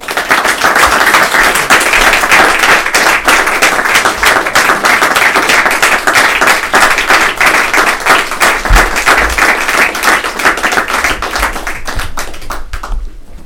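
A crowd claps steadily and loudly, dense applause of many hands holding an even level for over ten seconds before starting to thin out at the end.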